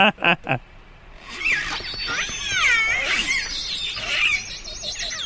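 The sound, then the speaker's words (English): Orca biphonic calls, a family-specific call in which one animal makes a low and a high frequency call at the same time: two short, sharp opening cries, then a long wavering whistle sliding up and down above a lower buzzy tone, both sounding together without any talking. “Now, this is a family-specific call, and it's a biphonic call, meaning one animal is making a low frequency and a high frequency call at the same time.”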